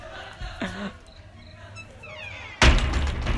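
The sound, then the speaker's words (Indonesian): A door being closed: a soft thunk, then a moment later a louder, sharper burst of noise as it shuts, with faint background chatter and no clear speech. “bentar gue tutup pintu, berisik cuy yang orang games.”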